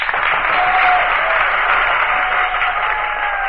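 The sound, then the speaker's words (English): An assembly of nations applauds vigorously at the final words of an address, a dense, steady roar of clapping that stays loud and unbroken for the whole few seconds, with no voices standing out. “Accepting nations of the Eastern Bloc, at whom the mild but firm address is directed, the Assembly greets these final words with vigorous applause.”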